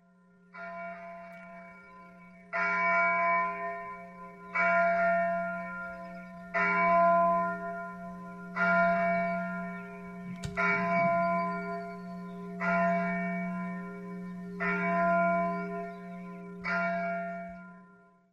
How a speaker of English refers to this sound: Flocked with the rolling voices of the evangelical bells.